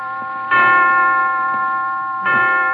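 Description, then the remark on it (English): Resonant clock chimes strike five o'clock in a hospital: two full, ringing tones about two seconds apart, each with a long sustained decay over a faint background. No one speaks. “I didn't know the hospital had chimes.”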